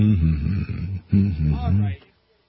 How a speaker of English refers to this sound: Ladies and germs, we are experiencing mild technical difficulties, and that means I just have to hum.